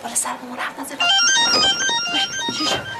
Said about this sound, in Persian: نه نه صدای گوشی اینه. خیلی بهره نبینی با این صدای زنگ موبایلت. آخه این کیه که ستون بدن منو لرزونده؟